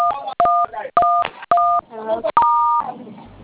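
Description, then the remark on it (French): Four or five short, steady telephone keypad beeps sound in quick succession over a narrow phone line, each a two-tone chirp, as a woman caller presses the keys of her phone, with a person's voice talking in the gaps between presses. “C'est vous qui manipulez les claviers?”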